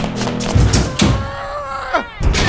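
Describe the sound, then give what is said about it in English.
Heavy, booming thuds strike a door at uneven intervals, several loud impacts over a low rumble, with a brief high whine in between. “It's gonna break the door down.”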